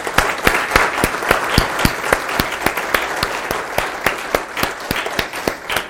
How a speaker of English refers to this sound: Do we have any great grandmothers here today? Anybody who's a great grandmother? All right, several. If you would stand, please. All right. But we've got to give a round of applause to these folks here.